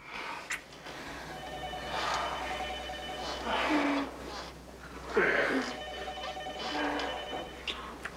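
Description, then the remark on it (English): A telephone rings in repeated bursts in a loft apartment over a steady low hum, with faint breathy vocal sounds mixed underneath. “Ignoring the phone, he looks up at a video camera hidden on a beam above his head and gives it a cheeky grin.”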